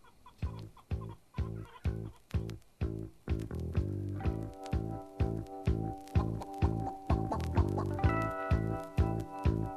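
Chickens cluck in a steady, rhythmic pattern of short, loud bursts, woven into music that grows fuller with sustained tones partway through. No one speaks.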